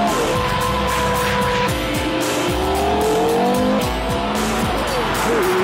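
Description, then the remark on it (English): A high-revving 5.7-litre V10 sports car engine, originally designed for racing and now in a road car, roars loudly and continuously, its pitch climbing and dropping through gear changes, with tires squealing as it is driven hard around a track. “It's a 5.7 litre V10. Originally designed for racing, but now it's in a road car and the effect is absolutely...”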